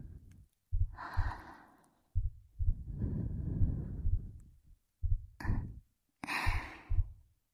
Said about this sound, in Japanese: こうして胸を寄せ合うと、お互いの鼓動がよく聞こえますね。お客様の音は、先ほどからどんどん速くなっておられます。